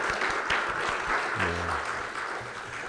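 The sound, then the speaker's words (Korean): A church audience applauds to give glory to God after songs of praise by the praise team and choir. It is a dense, steady wash of many hands clapping at an even level, with a brief low voiced murmur rising partway through beneath the clapping. “또이 찬양을 통하여서 영광 받으실 우리 하나님, 그리고 우리 찬양 가운데 우리와 늘 함께하는 우리 성령 하나님, 그리고 성령님 임재하시는 주의 몸된 공동체를 허락하신 하나님께 감사를 드리며 다시 한번 하나님께 영광의 박수를 드리겠습니다.”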